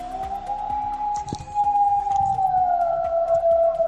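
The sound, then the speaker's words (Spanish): A wolf howls at night near Navelga, Sentineo, in Asturias, in one long, unbroken, mid-pitched note that holds steady and then sinks slightly toward the end, with faint background rustling and no voices. “Lo escuchan por las noches los vecinos de Navelga, Sentineo, localidad de más de 500.000 de habitantes que en los últimos días notan al lobo más cerca de lo habitual.”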